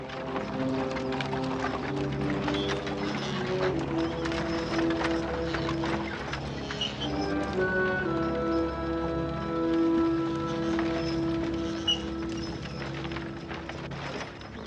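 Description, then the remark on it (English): A horse-drawn wagon moves off in Pleasant Valley, hooves clip-clopping in a steady, brisk rhythm, with wheels rattling and creaking along. The sound is continuous, with no talking. “the colonel returns to his paper as his wagon moves off.”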